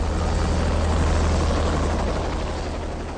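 Helicopters' steady rotor drone and engine roar fill the air, low and throbbing, fading slightly as the craft move off. No voices are heard. Three helicopters carrying blue-force special forces troops flee during a military exercise.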